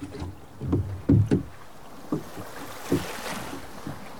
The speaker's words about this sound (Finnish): Oli jo ilta, ja me Jeesuksen opetuslapset lähdimme soutamaan takaisin kotiin järven yli.